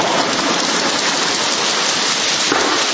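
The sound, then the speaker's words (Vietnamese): An audience claps steadily in thanks to those who raised their hands for wanting freedom, a dense, even wash of many hands applauding for about three seconds with no voices over it. “Rồi, xin một tràng pháo đá cảm ơn những người tự do.”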